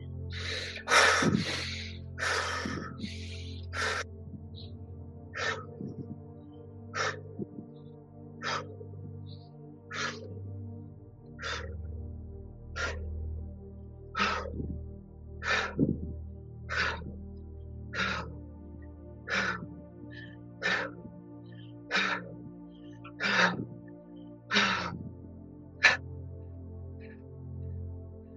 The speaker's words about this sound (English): It's just allowing your body to move as much as possible to support the faster breathing. And it's just between 30 to 40 seconds that we are doing, right? So faster breathing with supportive body movements for the next 30 seconds starting now.